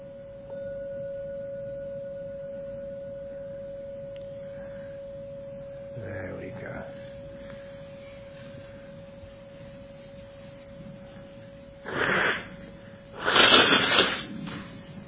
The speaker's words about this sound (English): I will now ring the gong 3 times, as usual. Please listen to the sound of the gong. When the gong stops sounding, then come out for your meditation.